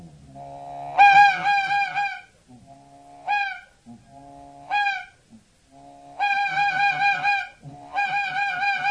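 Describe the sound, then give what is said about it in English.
A hand-blown goose call used for goose hunting imitates honking geese in a series of loud, nasal honks and clucks, coming in bursts with short pauses between them, clear with no talking. “One of the smart birds we have up in Tennessee, I happen to be from Somerville, Tennessee, and I hunt a few geese, pardon me, on the Mississippi River.”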